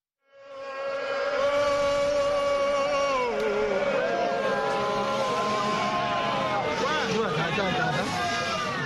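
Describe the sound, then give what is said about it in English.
A large crowd of Vinso people in the town of Kumbu, in Cameroon's northwest region, shouts and applauds after gathering to hear elders and palace notables urge a welcome for their traditional leader, Mbinglo. A dense, loud wall of overlapping raised voices and clapping swells in within the first second and carries on steadily to the end. “Vinso people of Cameroon's northwest region shout and applaud in the town of Kumbu.”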